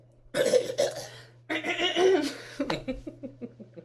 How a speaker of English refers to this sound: I think she doesn't have to clear her throat like I do.